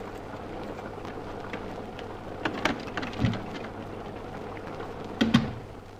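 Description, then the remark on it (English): Steady rain pours down in a continuous hiss, with scattered heavier drops and a few sharper splatters and knocks standing out now and then. No voices are heard. “At last, the cottage. 2 miles in rain and slush and worn out.”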